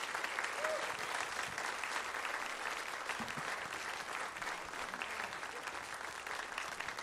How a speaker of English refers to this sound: Come on, everybody. Will you stay on your feet? Give Jesus a big hand clap of praise. He's worthy of it, isn't he?